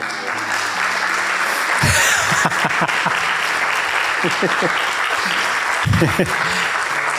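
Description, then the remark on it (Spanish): A crowd breaks into sustained applause, a dense, steady wash of clapping lasting several seconds, with scattered voices and shouts rising through it. “Yo pensé que iban a aplaudir.”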